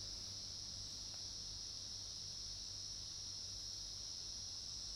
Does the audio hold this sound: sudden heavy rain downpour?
no